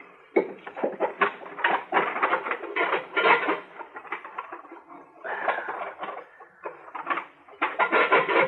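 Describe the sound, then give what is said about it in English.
Sticks of wood clatter and knock as they are fed into a stove, a run of irregular wooden clunks and scrapes in bursts with short pauses, moderately loud, with no talking. “The stove could use a stick or two.”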